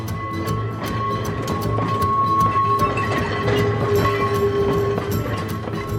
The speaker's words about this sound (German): Langsam und bedächtig kämpft sich der ratternde Straßenbahnwagen an einer steilen Bergflanke hoch. Die kleine Tram ist ein echtes Prachtstück.